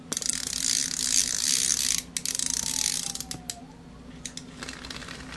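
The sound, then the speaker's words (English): A wind-up toy elephant being wound by its tail: a dense, rapid ratcheting clicking for about two seconds, then looser, slower clicks and faint whirring as the winding continues, with no talking. “You have to turn his tail like this. Turn the tail. Then, whoa! That elephant starts moving around really fast.”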